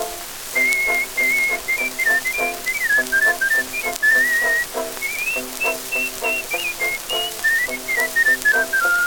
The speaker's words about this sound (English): Oh, I never heard him talk to anybody in my life, but he's happy when he whistles his tune.